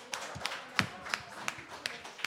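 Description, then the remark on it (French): Audience applause at the chalet in Air Bell, with sharp, distinct hand claps landing in a steady rhythm, about three per second, over a softer wash of background noise. Moderately loud, with no talking. “Applaudir. Merci. Très, très, très, très, très fort.”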